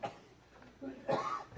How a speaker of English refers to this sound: I want to apologize for this tubercular cough that I can't get rid of here.